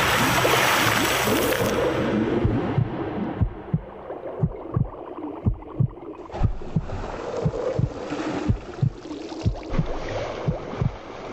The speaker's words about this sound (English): You really are pushing your body to the limit. Her heartbeat must be going through the roof. How is she keeping such control?